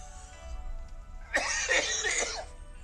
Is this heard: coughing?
yes